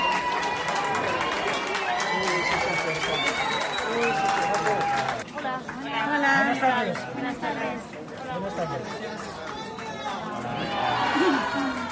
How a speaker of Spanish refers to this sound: La familia real fue recibida entre vítores y gritos de Viva España.